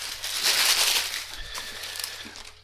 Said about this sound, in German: Ja, ich mach jetzt das nächste hier. So, Zeitungspapier.